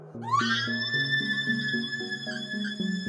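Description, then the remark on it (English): A computer screams: a shrill electronic screech sweeps upward and then holds at a piercing steady pitch, loud, over a pulsing, stepping low tone that runs throughout. No one speaks. “The computer screamed.”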